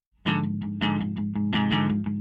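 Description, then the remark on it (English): A loud sad punk song about being queer, trans, and black kicks in abruptly, with thick distorted guitar chords hammering out a driving, steady rhythm, with no voices heard. “They make sad punk songs about being queer, trans, and black.”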